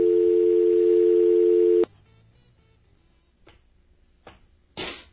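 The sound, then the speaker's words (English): A steady, loud telephone dial tone on the AM 760 radio studio phone line hums for nearly two seconds, then cuts off abruptly, followed by a few brief clicks and a short burst of line noise. “I got the phones messed up.”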